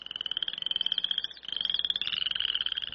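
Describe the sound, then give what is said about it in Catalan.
A poison dart frog gives a high, rapid buzzing trill of fast pulses, continuous, with one brief break midway before it resumes. No voices. “La granota de les fletxes es diu així perquè els indígenes fan servir el seu verí per sucar, les fletxes per caçar.”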